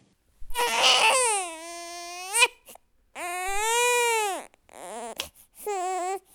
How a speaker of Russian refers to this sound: Крик замолк, но послышался другой крик, крик ребенка.